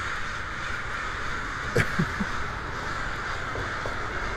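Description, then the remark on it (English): A short burst of crow caws, three or four harsh calls in quick succession over a steady outdoor hiss, followed by a couple of fainter caws. “But it's definitely Crow Day. Welcome to Crow Day, y'all.”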